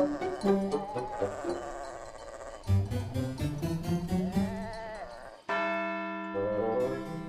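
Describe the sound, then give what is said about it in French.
Many livestock bells clank and jangle together in an irregular, overlapping chorus from sheep and goats around a farm and cows on transhumance, with sheep bleating among them, before a sustained, ringing church bell tone takes over near the end. “Donc là, on entend, j'aimerais presque dire, toutes les sortes de cloches, de clarines, parce que vous avez différentes bêtes.”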